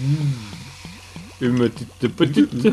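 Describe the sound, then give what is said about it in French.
Beer, a white beer from a microbrewery in Mont-Laurier, glugs out of a bottle into a glass in a quick series of gurgling pulses, fairly clear, with a voice starting to talk over the last part. “Alors, petite boisson pour festoyer.”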